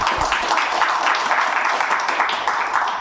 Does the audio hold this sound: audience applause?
yes